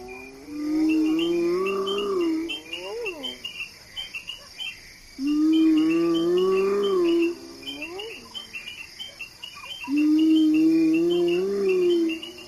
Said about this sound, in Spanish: Dos horas antes del amanecer en Masai Mara, estos lamentos profundos son las hienas. El grito de la hiena es esta especie de conversación triste, profunda, melancólica, ¿no?